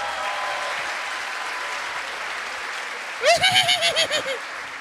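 Steady audience applause for about three seconds, then a loud, pulsing, high-pitched whinny-like bleat of around seven rapid bursts rises over the fading clapping.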